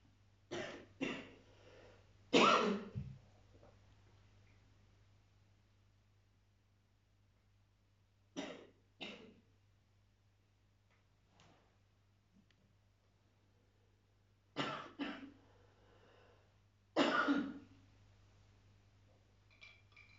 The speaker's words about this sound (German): Und schon reagiert er mit Husten und alles. Ja? Der begreift sofort.